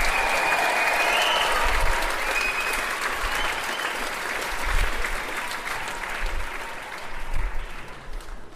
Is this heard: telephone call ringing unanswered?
no